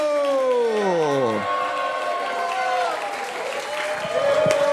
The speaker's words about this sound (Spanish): Fuerte aplauso para Pablo.